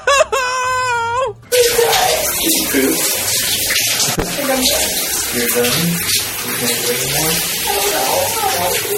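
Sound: shower running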